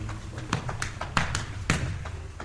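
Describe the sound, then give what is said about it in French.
A man humorously drums his hands on his own well-rounded belly, producing a quick, uneven series of soft, dull slaps over a low, steady background hum. “Un homme dans les 70 ans, avec une chemise rose pimpante, se penche vers son voisin qui tambourine avec humour sur son ventre bien rebondi.”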